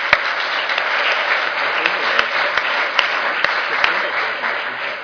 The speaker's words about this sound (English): please let's give another round of applause for all three of our speakers.